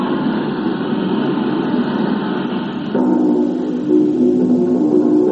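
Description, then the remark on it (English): A steady, loud airplane engine drone fills the whole stretch, a broad rumbling roar whose tone shifts partway through, adding a sharper humming whine over the low rumble. “The plane! The plane!”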